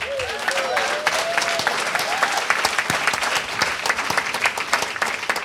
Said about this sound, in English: She's going to be bringing, yes, clap your hands for mothers.